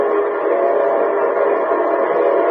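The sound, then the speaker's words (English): A locomotive whistle blows in one long, steady, loud blast, a sustained chord of tones held without a break, with no voices present; the signal an engineer sounds when the train approaches stations, junctions and railroad crossings. “Say, that's the signal a locomotive engineer blows when his train is approaching railroad stations, junctions, and railroad crossings.”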